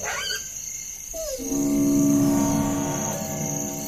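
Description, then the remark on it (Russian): A dog lets out a thin, moaning squeal that slides down in pitch and then holds steady as a drawn-out whine for about two seconds, with no voices around it. “Тонкий, словно стонущий визг, вдруг коснулся его слуха.”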